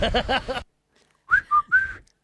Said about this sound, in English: Whistle, you blow out. I suck in. It doesn't work.